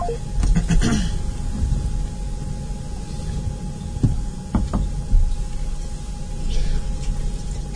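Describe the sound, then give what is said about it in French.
A few sharp taps, like keypad presses, come in irregular bursts over a steady thin tone and a broad hiss as a phone number is dialed to call someone back. No one speaks. “Allez, je la rappelle.”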